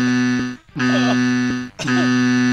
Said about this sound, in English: Stop playing that buzzer.